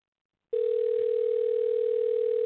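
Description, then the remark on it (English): After a half second of silence, a telephone dial tone starts after a call is hung up: one steady, unbroken mid-pitched hum, loud and constant for about two seconds, with no voices. “Dog, I thought you hung up on me, goddammit, dog.”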